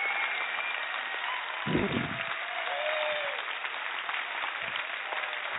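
An audience applauds steadily for several seconds after a song performance, a dense, even wash of clapping, with faint cheers or whistles rising briefly through it.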